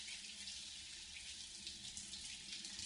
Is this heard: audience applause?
no